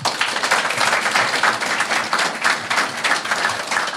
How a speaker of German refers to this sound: Es haben aber auch viele Leute einfach Dinge mitgebracht und auch vor Ort noch geschaffen. Applaus dafür nochmal an die Leute, die irgendwie Dinge getan haben.